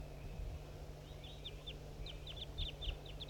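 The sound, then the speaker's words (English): A series of short, high, repeated bird chirps from recordings and wild birds arrives in quick bursts, some sharper and others softer, the softer ones from wild birds, over a steady low hum with no talking. “Recordings 4-3 and wild birds as well.”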